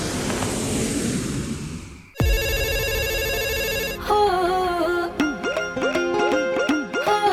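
After a brief wash of noise, a loud electronic phone ringtone starts: a steady buzzing tone, then a bright, warbling synthetic melody that repeats, with no voices.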